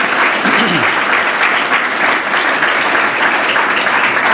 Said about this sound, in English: If it is, I dare you to clap your hands unto the Lord. Praise the Lord.